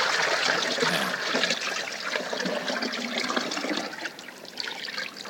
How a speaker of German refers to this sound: Das Wasser tut gut hier. Einfach nur, dass es da ist, das Becken. Erholt, belebt.